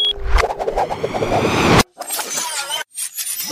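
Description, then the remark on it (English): An airlock closes after a button is pushed: a loud mechanical rumble with a whirring hiss runs for about two seconds, then cuts off abruptly, followed by softer clanking and scraping bursts with brief silent gaps; no one speaks. “I push this button to close the airlock.”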